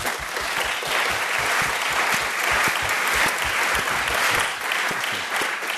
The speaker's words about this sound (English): Now, before we do anything else, a round of applause, please, for our wonderful guests.